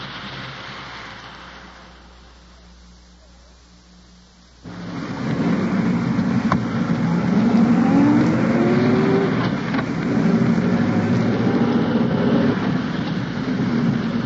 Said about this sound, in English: At present, I'm riding in an undercover car